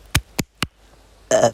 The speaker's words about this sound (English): Sorry, damn. I think that was the second burp this time. Super professional.